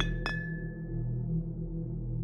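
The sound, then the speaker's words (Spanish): At night, a glass tumbler that had been left on the floor knocks over and clinks twice in quick succession on a hard floor, leaving a single bright ringing tone that fades out over a low, steady background hum. “Reconocí el sonido. Era de un vaso de vidrio que había dejado en el suelo por flojera, así que no le presté mucha atención hasta que escuché como si alguien jugara con él.”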